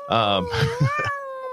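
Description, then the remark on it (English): A short cat meow with a strained, tonal quality, followed by a longer drawn-out wavering cry that slowly fades, heard on its own. “Keep the cat in the bag right now. He tried to get out. Did you hear him?”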